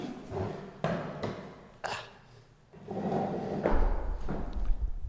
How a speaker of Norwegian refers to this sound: to sek, jeg må bare vri stolen litt, sånn at jeg kan sette meg.